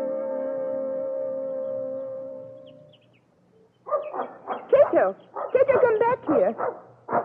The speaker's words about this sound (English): Poor dog. You want to talk, don't you? You want to tell me how lovely it is here in the forest.